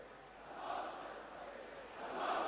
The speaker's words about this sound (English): We're hearing chants now of death to Israel by those who are present by the crowds, a slogan of Al-Mot li Israel, which is death to Israel.